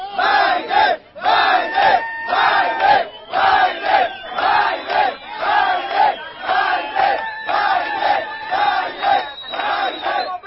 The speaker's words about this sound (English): Tape emerged yesterday of illegal immigrants on their way to the United States. And as they were marching, they were cheering Joe Biden's name.